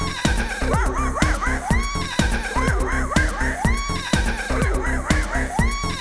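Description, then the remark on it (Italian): Loud horse neighs rise and fall again and again over a steady, driving thump-like beat, the whinnies repeating about once a second throughout with no talking. “Cerchiamo di capirci, dunque, adesso il cavallo, the horse, uè, sempre di corsa, d'accordo?”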